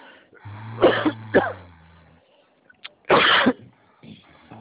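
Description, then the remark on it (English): A coughing fit: two sharp, raspy coughs, a pause, then a longer harsh cough and a rough throat clearing, with strained breathing in between. No one speaks. “I'm having a coughing fit.”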